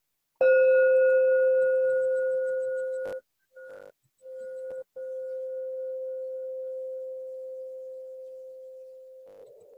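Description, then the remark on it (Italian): A meditation bell is struck once and rings out with a steady, mellow mid-pitched hum that fades slowly over about nine seconds, briefly cutting out a few times. No one speaks. “Campana, grazie Ri.”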